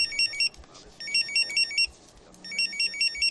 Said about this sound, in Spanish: Estos tres pitidos solo significan una cosa para un geo, que una misión está a punto de comenzar.